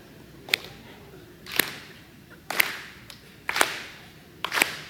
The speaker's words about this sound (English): It's okay to clap your hands. Right? You want to do this with me?